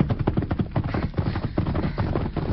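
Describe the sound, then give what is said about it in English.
Horse hooves clip-clopping in a quick, steady galloping rhythm, a dense run of sharp thuds that stays loud and busy throughout, with no voices over it. “Stopping that horse.”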